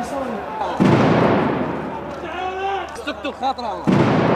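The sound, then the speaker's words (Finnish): Two loud, sharp stun grenade blasts fired by security forces into protesters near the Al-Sinek bridge in central Baghdad, Iraq, one early and one near the end, with a crowd's shouting and raised voices echoing between them in an outdoor street scene. “Turvallisuusjoukot ampuvat tainnutusgranaatteja ja kyynelkaasua mielenosoittajien joukkoon.”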